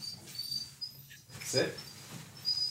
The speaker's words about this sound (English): This is my dog, Arby, after the roast beef place.